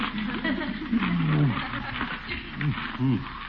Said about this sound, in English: No. Oh, a cat. Kitty, one of us will have to get out of here. Go away now. Scat.